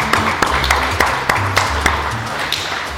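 An audience applauds steadily for about three seconds, a dense crackle of clapping with a few sharper individual claps popping out at a loose, regular pace over a low humming tone.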